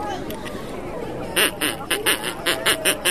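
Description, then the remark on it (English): After a brief stretch of background noise, a person at the Extra Tough Race, a world-record walking race, imitates a duck with a quick run of about eight loud, nasal quacks in an uneven rhythm. “And then there were some ducks. Can you quack for me?”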